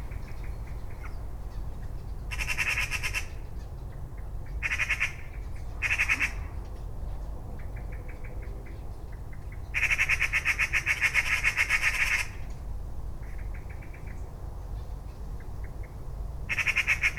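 Birds among leaves, heard close up, give harsh, raspy squawking calls in irregular bursts, a few short and one lasting about two seconds, over a steady low background rumble.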